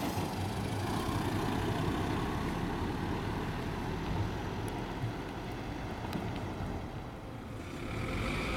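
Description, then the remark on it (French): Steady road traffic noise with a continuous low engine rumble and a broad wash of tire hiss, holding at a fairly even loudness throughout, with no voices. “J'entends les bruits de voiture.”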